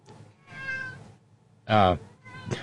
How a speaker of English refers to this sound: Randy Radar says, no meowing from the peanut gallery.